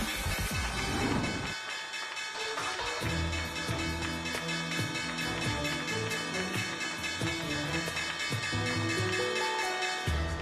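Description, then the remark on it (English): A stock exchange closing bell rings loudly and without pause for about ten seconds, a dense, harsh metallic clatter with a steady, rapid pulse and no voices. “All right, we have a closing bell and we have a gavel.”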